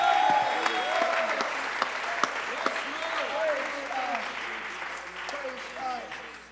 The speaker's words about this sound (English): Clap your hands. Fuerte aplauso.